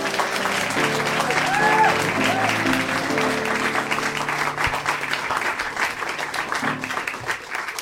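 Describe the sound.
Steady applause from a crowd, a dense wash of many hands clapping at a fairly loud, even level that slowly tapers off over several seconds, with a few cheers and murmuring voices mixed in.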